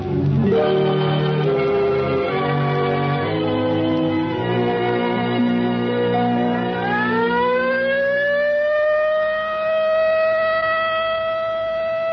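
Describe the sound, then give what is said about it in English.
A civil defense siren for a practice alert winds up, its loud wail climbing steadily in pitch and then holding a sustained, droning tone, with no one speaking. “There it is, the practice alert.”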